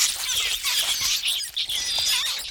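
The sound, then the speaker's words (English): A dense chorus of high-pitched rat squeaks chatters continuously and fairly loudly, many tiny overlapping calls with a brief dip midway, and no voices. “Rats.”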